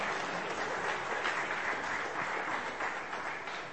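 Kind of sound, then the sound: crowd, applause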